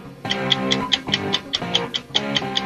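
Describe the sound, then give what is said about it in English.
A quiz countdown timer music cue marking 60 seconds on the clock plays: crisp, evenly spaced clock-like ticks pulse quickly over a steady low synth drone, loud, with no one talking. “60 seconds on the clock. Woods, your time begins when Paul plays the music.”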